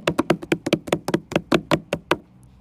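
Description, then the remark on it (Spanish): A rapid, insistent run of about a dozen loud knocks on a house door, hammered out in quick succession for around two seconds before stopping. “Y entonces, así en la puerta.”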